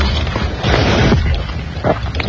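Loud, wet munching of pumpkin pie, eaten by hand as fast as possible: a few thick, crackling chews with a heavy burst in the middle and another near the end, no talking over it.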